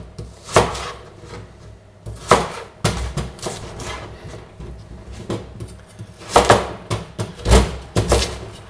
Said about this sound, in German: Gut, dann schneiden wir das jetzt hier schön in grobe Würfel. Die Süßkartoffel.